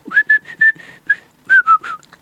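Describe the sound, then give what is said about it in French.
A person whistles a birdlike tune imitating a bird's song in a fairy tale being told: a quick series of clear, high notes, the first several held at one steady pitch, the last few sliding downward, with no talking. “Quand il eut chanté, il s'envola, serrant la chaîne d'or dans sa patte droite, les souliers dans la gauche, et vola loin, loin, loin”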